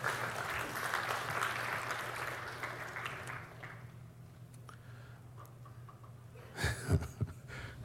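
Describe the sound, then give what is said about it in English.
A crowd claps in a dense wash for a few seconds, then the applause thins and fades out, leaving a low steady hum, with a brief clatter near the end. “I heard a little bit of applause.”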